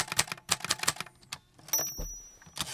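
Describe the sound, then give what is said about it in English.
Crisp clacks of a small Groma Calibri manual typewriter in a studio being typed on in quick irregular bursts, with a brief pause and a mechanical ring and slide of the carriage midway, no voices. “The sound of it, of course, and I have a little Groma Calibri in the studio. I can make a little tapping sound for you.”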